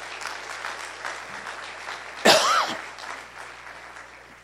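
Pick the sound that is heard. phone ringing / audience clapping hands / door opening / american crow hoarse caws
audience clapping hands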